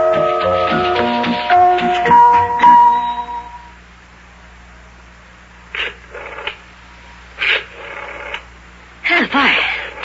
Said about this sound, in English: Is that the number you're dialing there? Yeah. And I keep getting the busy signal.